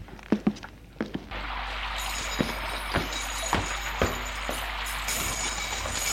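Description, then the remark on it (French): Keys on a keyring attached to a belt jingle and a lock clicks in a few sharp metallic clacks as a door off a dark corridor is unlocked, then a steady hiss of room noise follows with scattered clunks as the door is pushed open. “Et va ouvrir une porte.”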